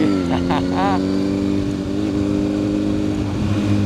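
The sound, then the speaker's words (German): A motorcycle engine roars loud throughout as it is ridden with a passenger on the back, holding a steady low rumble with slight shifts in pitch as it drives along, plus a brief warbling tone early on. “Ich war ja das erste Mal, dass ich auf dem Motorrad gesessen bin. Das habe ich gehört, ja. Ja. Deswegen habe ich besonders Gas gegeben.”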